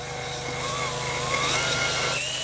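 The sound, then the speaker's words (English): A cordless drill runs steadily, turning an ice coring device to take a core of firn on top of Thwaites, with a continuous whirring motor drone and grinding hum that holds for the whole stretch, no voices. “She uses a coring device attached to a cordless drill.”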